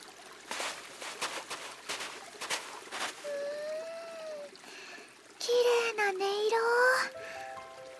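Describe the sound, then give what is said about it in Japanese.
A river stream of clear water flows with a steady rush throughout, while clear whistling, bird-like calls rise and glide over it in the second half. “そこの川へ行ってみようよ！きっと涼しいよ！”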